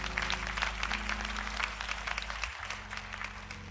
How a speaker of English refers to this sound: So let's give him a round of applause and acknowledge him.